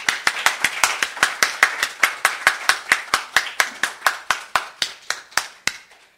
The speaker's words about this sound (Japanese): それではご臨在の主に感謝の拍手を持っていきましょう。ハレルヤ。